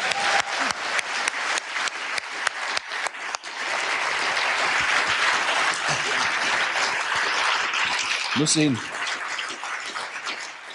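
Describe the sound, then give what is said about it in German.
A large audience breaks into sustained applause, dense clapping that starts with a few distinct claps and swells into a steady roar lasting several seconds, with a brief voice cutting through near the end. “Geben wir erstmal einen Riesenapplaus.”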